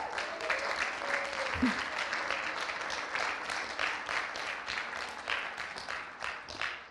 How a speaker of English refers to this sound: Let's give Jesus a big clap.